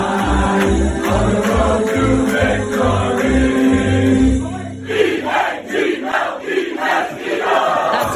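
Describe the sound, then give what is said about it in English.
A loud crowd of about 300 people in jerseys at a bar in Boston sings a football fight song together over a steady pounding beat after the A.J. Brown touchdown, then the singing breaks into rowdy shouts and cheers for the last few seconds. “This is where I think they might have been singing.”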